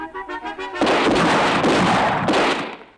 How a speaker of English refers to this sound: Charlie collapses through the banisters.